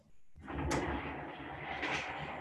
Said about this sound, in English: Excuse me, I'm moving a chair.